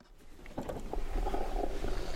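An underwater recording of a tautog fish call, picked up by underwater microphones dropped off the Kachuit Town Dock on Cape Cod: low, rough purring pulses that come in short bursts over a steady, muffled rumble, moderately loud, with no voices.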